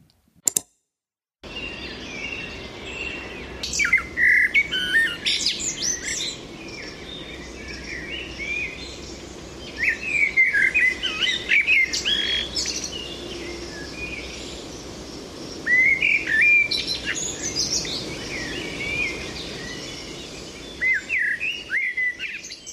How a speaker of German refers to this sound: Der Amselgesang ist eben auch oft bei weniger erfahrenen VogelkundlerInnen wohl bekannt, klingt er doch sehr angenehm, melodisch, weich im Ton, hat fast so was festlich-feierliches